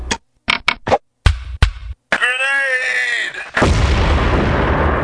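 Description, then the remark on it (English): A door is opened and a flashbang grenade tossed into a room: several sharp, loud bangs and clatters, then the blast leaving a wavering, high-pitched ringing whine that gives way to a loud, steady rushing hiss. “Now watch this, and I'll quickly open the door and toss in the flashbang.”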